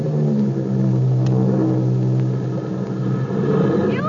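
A seaplane's engine drones loudly and steadily throughout as the plane comes down to land, a continuous rumble with a slight shift in pitch and a thin rising whine near the end.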